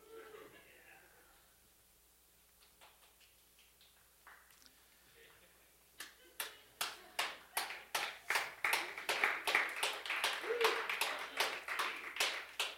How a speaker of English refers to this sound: Sounds like in a hero movie, slow clap.